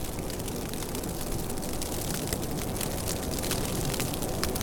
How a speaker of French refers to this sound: La neige qui tombe produit un son et en toile de fond la mélodie du vent dans les arbres.